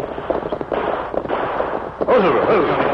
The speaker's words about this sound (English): Hear that gunfire, Tonto? Me hear it. Maybe Indians shoot miners. I can't believe it. The shooting's just over the ridge. It's all of 2 miles from the Indian reservation in the Rainbow Hills.